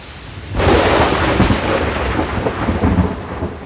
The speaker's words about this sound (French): Le tonnerre grondait très fort et des éclairs traversaient le ciel.